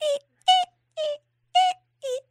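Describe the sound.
A voice imitates a creaking pirate ship: five short, strained, high-pitched groans of even loudness, spaced in a steady rhythm with brief silences between them.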